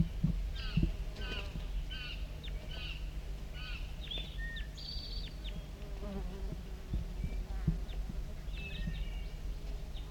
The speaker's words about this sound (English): Recording close contact calls of a wild bird.